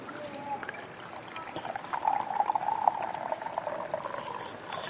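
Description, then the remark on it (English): Tea pours steadily into a cup, a continuous liquid splash whose gurgling tone rises slightly as the cup fills, lasting several seconds with no talking. “Let me pour you a tea.”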